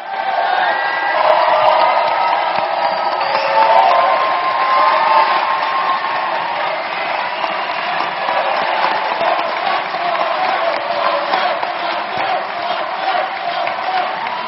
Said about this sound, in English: Cheering on the Mandela of Puerto Rico, Oscar Lopez Rivera.